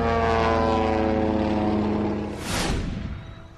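A veteran bush pilot's float plane propeller engine drones steadily with a buzzing, layered hum as it gets airborne, then a rushing surge of noise sweeps in near the end as the engine sound fades slightly.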